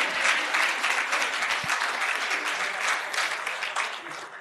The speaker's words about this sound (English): And I thought you'll give us a warm round of an applause.